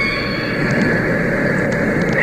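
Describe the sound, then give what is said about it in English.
Orca killer whale calls from killer whales chasing: sustained, eerie high-pitched tones drone steadily over a constant rumbling wash of underwater noise, with a few faint brief clicks and no one talking. “10 hours orca killer whales chasing.”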